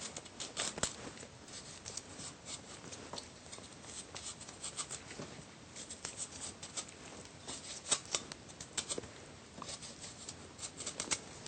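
Dry scraping strokes as the big bottom stems of washed gailan are peeled before stir-frying, repeating in a quick, uneven rhythm for several seconds with a few sharper snaps; no one speaks.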